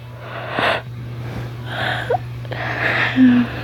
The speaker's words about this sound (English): Sorry, I keep yawning. I'm kind of sleepy fuzzy still. I woke up just a while ago.